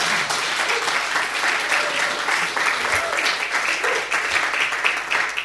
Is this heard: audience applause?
yes